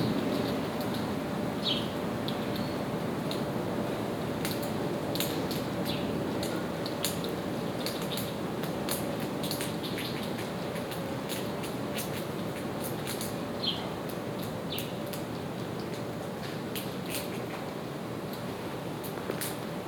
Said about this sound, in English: So here in, we're in an alleyway and we hear small chatter noises from squirrels and the chirping of house sparrows.